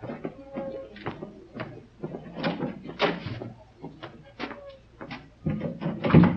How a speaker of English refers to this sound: I'll go ahead and open the door.